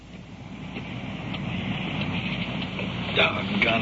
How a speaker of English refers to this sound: Doggone it. I got my feet wet getting into the car. Rain's really coming down now.